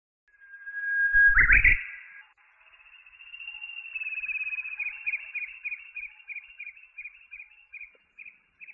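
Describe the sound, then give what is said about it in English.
A small bird sings clearly on its own: a long, thin whistle, then a steady run of quick, repeated chirps that carries to the end. A brief low thump sounds near the start. “Thank you, little bird. Your singing makes me happy.”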